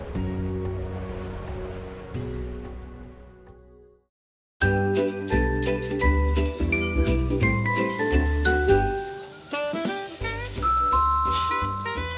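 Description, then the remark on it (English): A doorbell chime melody rings out for a visitor at the door in a clear sequence of bright tones, pausing briefly before a busier run of chimes over sustained musical backing, loud, with no talking. “Someone's at our door!”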